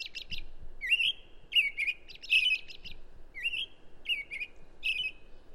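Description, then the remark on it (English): An American robin sings a clear, caroling series of short whistled phrases, repeated in a steady rhythm with brief pauses, heard alone against a quiet background. “Yeah, the American robin is found across the continent, and listening to the robins in the morning can be, you know, an absolutely wonderful way to welcome in the spring.”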